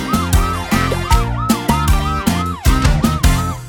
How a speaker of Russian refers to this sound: Кто приедет и поможет нам? Пожарная машина! Я пожарная машина!